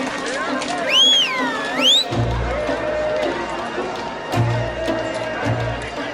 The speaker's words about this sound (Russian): Слышите? Опять топот копыт. Снова кто-то едет?